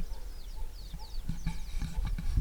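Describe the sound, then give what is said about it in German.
A dog barks in a series of short, muffled bursts from inside a truck, while birds in the trees chirp and whistle faintly in the background. “Fängt da gerade noch ein Köter an zu bellen, in so einem Auto wahrscheinlich.”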